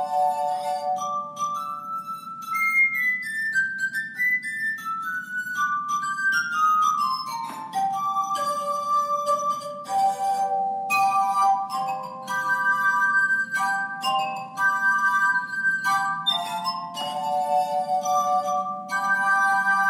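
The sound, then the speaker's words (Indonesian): A melody rings out from drinking glasses, clear sustained tones stepping up and down in pitch with bright clinking strikes throughout, played alone with no talking, steady for the whole stretch. “Orang pasti tersenyum kalau mendengar nada yang dihasilkan gelas-gelas ini.”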